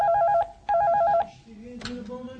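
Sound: telephone ringing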